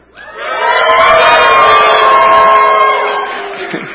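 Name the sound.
audience cheering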